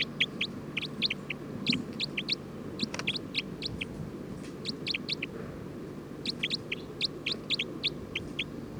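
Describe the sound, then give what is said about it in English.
Bursts of short, high-pitched chirps from bird 306 come in quick clusters of three or four, repeating throughout over a steady low rumble of background noise, with no one speaking. “Trying to get bird 310. Stop. Recording bird 306.”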